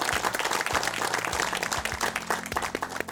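A studio audience applauds steadily, a dense wash of many hands clapping at an even, fairly loud level throughout, with no voices over it.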